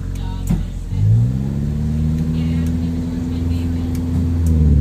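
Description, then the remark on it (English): Car engines in a traffic jam in the jungle rumble and rev, a low steady drone that climbs in pitch early on and then holds, like idling traffic pressing forward. “Looks like traffic jams even exist in the jungle.”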